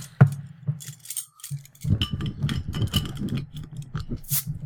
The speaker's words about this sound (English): I hear a lot of noise. A lot of typing. A lot of typing.